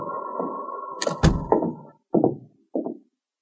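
A cabin door latch clicks sharply as Sergeant Preston lifts it, over a drawn-out creak as the door swings open, followed by two dull thumps, fairly loud with no voices.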